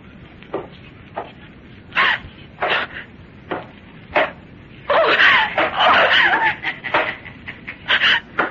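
A woman screams in fright, a string of short shrill bursts that swell into a longer, frantic outcry before breaking back into gasping shrieks, loud.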